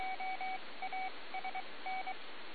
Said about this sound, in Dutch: Dat was een goede callgever. Die was wel zuiver van toon.